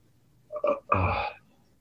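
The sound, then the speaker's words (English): A fairly loud belch: a brief guttural croak followed by a longer, rumbling burp lasting about half a second, with quiet background before and after. “When a shaman belches, it's not rude, it's just clearing.”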